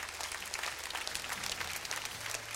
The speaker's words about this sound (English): How many of you gotten anything out of this? Can I see your hands? And give God a hand clap of praise if you don't mind.